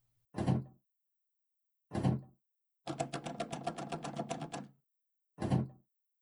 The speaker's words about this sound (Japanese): あら、あら、扉が開かないわよ。ねえ、あなたちょっと試してみてよ。